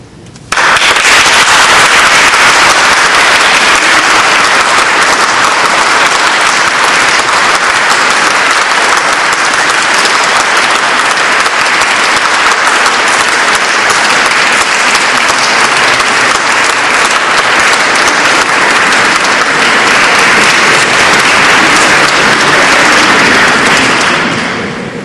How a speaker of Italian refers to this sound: Credo che il lungo applauso sia già testimonianza sufficiente dell'apprezzamento